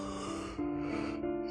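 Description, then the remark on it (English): A long, breathy yawn with a voiced, droning tone that steps up in pitch partway through, fairly loud with no talking. “You got there. There's a yawn there.”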